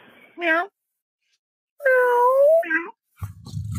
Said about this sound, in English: Meow. Yep, the crypto kitty just won't go away.